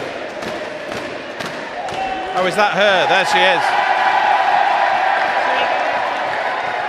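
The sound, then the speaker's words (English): A crowd swells into a loud, sustained roar of cheering for Liz Truss that builds partway through and holds steady to the end, while a few people speak over it at the start. “Okay, this is the Liz Truss roar we can hear behind.”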